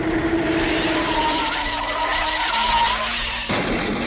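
Car tires skid loudly and continuously for several seconds in a traffic accident, a harsh squealing screech over rushing engine noise, then the sound shifts abruptly near the end. No one speaks.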